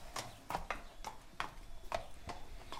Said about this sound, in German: Ein kleiner Pferdehof am südlichen Stadtrand Berlins. Auf einer eingezäunten Wiese stehen 5 Pferde, 5 Mitarbeiter, wie Julia Wahl sie nennt. Die leben hier eben im Herdenverband, im stabilen Herdenverband mit 5 Pferden.